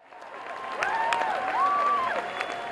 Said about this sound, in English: The big Western Hall crowd did not hide what they thought of the concert. Standing ovations after every song, squeals of delight when their favorites were played on a huge backdrop of orchestral music.